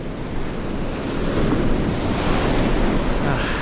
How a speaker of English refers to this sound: Go south to Cape Cod, where you can smell the salt in the air and feel that late summer sun shining on your skin. And the sand under your feet as the waves lap up on the shore.